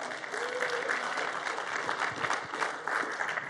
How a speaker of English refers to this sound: Hey, if this is your first time here, we love to clap for you guys because we want to honor you. We're so happy that you're here with us today. So if it's your first time here, we just want to welcome you. And we do that by clapping for you.